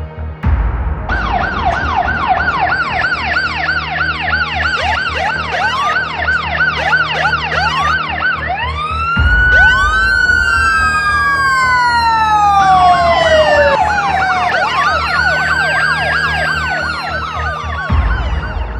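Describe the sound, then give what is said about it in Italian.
Police and ambulance sirens wail at once as the vehicles arrive on the scene, overlapping rapid yelping tones with long rising and falling wails, loud over a low engine rumble, with no talking. “Poco dopo, la polizia e l'ambulanza, allertate da alcuni passanti, arrivano sul posto.”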